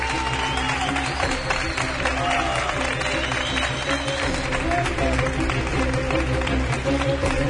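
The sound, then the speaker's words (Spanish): An audience at the Magic Internacional in Barcelona applauds steadily for several seconds at the start of a live show, a dense, sustained wash of clapping with some cheering mixed in, holding an even loudness throughout. “En esta ocasión desde Barcelona y os pido un aplauso para que se note que estamos aquí, en este lugar tan especial.”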